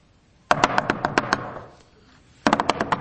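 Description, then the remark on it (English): Two bursts of rapid, loud rapping and banging by a crowd on Joash's door, each a quick flurry of sharp knocks, separated by a short pause with a fading rumble in between. “All kinds of banging and rapping.”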